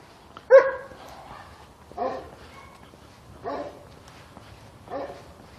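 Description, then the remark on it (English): Multiple dogs bark, four separate barks spaced roughly a second and a half apart, the first loudest and the rest a bit softer, over a quiet background hum. “Multiple dogs.”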